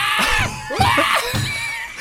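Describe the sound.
A person shrieks and squeals in a frantic, monkey-like imitation, loud high-pitched screeches rising and falling in rapid bursts for about two seconds.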